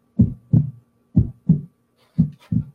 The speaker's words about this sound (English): So I'll just turn off the heartbeat there.